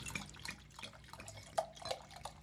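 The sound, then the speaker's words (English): Homebrewed Belgian beer pours from a corked bottle into a glass with a steady bubbling, splashing flow, broken by irregular little plinks and gurgles like drips as the liquid fills. No one speaks. “Yeah, just pour it straight in.”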